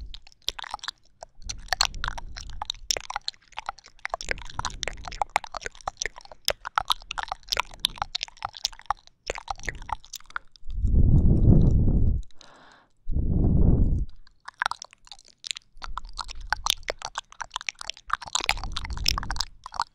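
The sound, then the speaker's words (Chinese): Wet ASMR mouth sounds: rapid, irregular clicks, smacks and chewing noises throughout, broken midway by two louder, muffled, rumbling bursts. No one speaks. “这是口腔音，我都刷了那么多遍了。”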